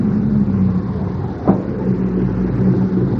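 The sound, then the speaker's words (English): A car engine rumbles steadily, a low continuous hum with one brief knock partway through, as the vehicle pulls up and comes to a stop. No one speaks. “It's her car, Doctor. Stop, stop.”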